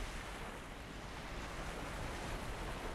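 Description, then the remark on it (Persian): Steady ocean surf washes continuously as waves break, with a wind-like rush and no voices. “واه، میبینی ارن؟ پشت اون دیوارا دریاست”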